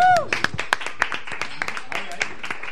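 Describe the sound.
A short burst of applause from a small group at the Asador Zafra restaurant, with sharp, irregular claps at moderate loudness continuing throughout, while indistinct voices murmur underneath.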